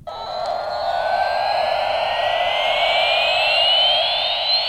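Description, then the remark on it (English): A children's toy jet airplane's loud electronic roar, a steady shrill hiss with a thin tone that climbs slowly in pitch across about five seconds, continuous and unbroken, with no talking. “So we're now going to hear the noise from one of these jet airplanes.”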